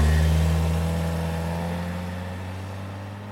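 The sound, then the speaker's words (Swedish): A red car's engine hums steadily with a low, droning tone and slowly grows quieter as the car drives away northward, with no voices present. “Han hade gått ner och satt sig i bilen, som sedan åkte iväg norrut.”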